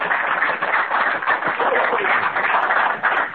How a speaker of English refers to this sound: Yeah, well, all the self-absorbed people, please applaud.